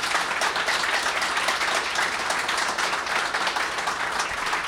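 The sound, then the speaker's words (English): An audience applauds its guests steadily, a dense, continuous wash of many hands clapping at once, sustained at an even loudness for several seconds with no talking over it. “Let's have a round of applause for our guests.”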